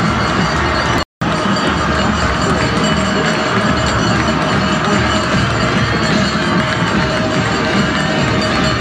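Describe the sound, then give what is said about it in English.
A large stadium crowd cheers and roars continuously as the Union Redskins win the 6A1 state football championship against Norman North, a loud, dense wash of voices and shouts that barely wavers, broken only by a brief instant of silence early on. “The Union Redskins are the 6A1 state champions, and listen to that crowd.”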